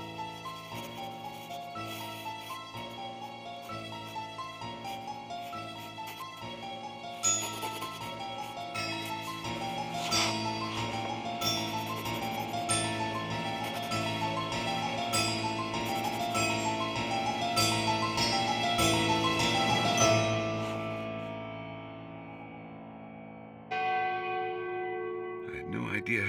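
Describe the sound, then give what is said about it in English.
The clock bell of St. Jude's strikes 4 o'clock in the distance: a steady, overlapping sequence of resonant strikes. Their layered metallic tones swell gradually before dying away, then a single fresh strike sounds near the end. “Until I heard the clock of St. Jude's in the distance.”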